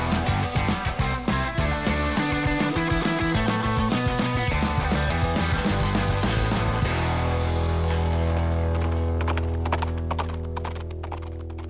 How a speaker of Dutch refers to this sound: En je hoorde net het spiksplinter nieuwe intro van de podcast. Ik ben er heel erg blij mee en ik ben ook wel heel erg benieuwd wat jij ervan vindt.